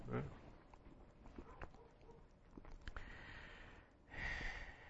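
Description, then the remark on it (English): The next-door neighbor's aging dog barks outside, a short sharp bark at the start and another longer, rougher bark near the end, moderately loud against a quiet background with a few scattered clicks. “He usually just ignored us, but here lately he's been barking at us when he's out.”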